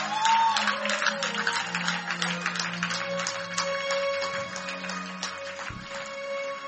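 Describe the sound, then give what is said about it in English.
A large crowd at a church prayer service claps steadily and loudly for several seconds, giving the Lord a clap. It is a dense wash of hand claps mixed with sustained musical tones and a murmur of voices underneath. “Now get up on your feet and give the Lord a big clap.”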